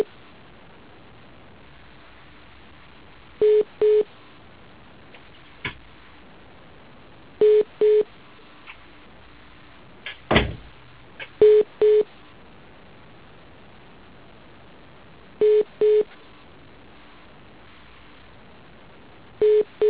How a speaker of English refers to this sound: Are you hearing that beeping? Yes. Okay, let me try to fix that.